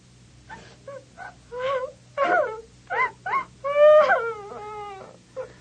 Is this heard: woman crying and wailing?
yes